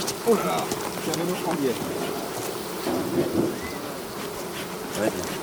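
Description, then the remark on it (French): A dense, steady drone of many honeybees buzzing around an opened beehive that people are lifting and inspecting, a swarm-like hum that rises and falls slightly throughout, with muffled voices now and then beneath it. “Donc, tu regardes là au milieu, savoir si les abeilles ont commencé à travailler.”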